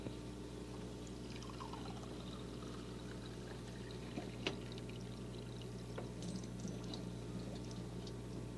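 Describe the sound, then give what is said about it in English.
Water pours steadily into an empty glass for several seconds, a continuous splashing trickle with faint clinks, quiet overall with no talking. “Is that glass empty or full? Empty. Okay. Now let's put some water in it.”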